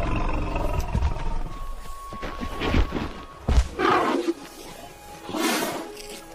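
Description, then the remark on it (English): A herd of tired elephants, near the end of a weeks-long journey, call over one another in a series of deep, rumbling roars, with a brighter, harsher bellow rising near the end. The calls come in loud, uneven bursts with no talking. “The elephants are nearing the end of their long journey.”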